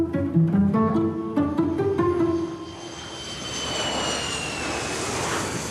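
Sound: airplane flying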